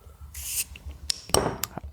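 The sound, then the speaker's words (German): A short fizzing hiss as a bottle of Schneider Weisse hop wheat beer is opened, then a few sharp clinks and a gush of beer being poured into a glass, with no one talking. “Ich habe ein bisschen Angst, dass es hier überläuft.”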